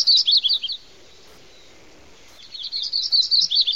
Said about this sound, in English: And the yellow-rumped warbler.